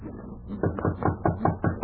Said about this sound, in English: Hark. Someone knocks.